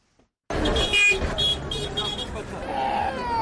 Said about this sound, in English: It's around 8 p.m. at the Nyabugogo National Bus Station.